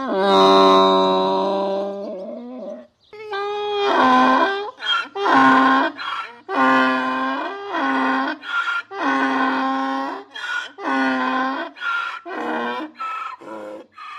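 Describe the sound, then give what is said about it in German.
A voice imitates a donkey braying: one long drawn-out cry, then a loud run of rhythmic, harsh hee-haw bursts repeating for several seconds. “Der Esel trat in die Höhle und machte ein solches Geschrei, dass die erschreckten Tiere hinausflohen.”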